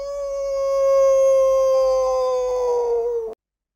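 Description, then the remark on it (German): A single long howl from the coyote that follows Mr. Coolwater at Bloodywood Castle, a sustained tonal wail that holds steady and drifts slightly lower before cutting off abruptly. It is fairly loud and stands alone, with no talking. “Und nicht nur die, sondern auch der Coyote.”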